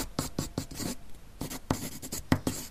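A pencil scratches across paper in quick, uneven strokes, a burst of scribbling, a short pause, then more brisk writing. Fairly quiet, with no voices.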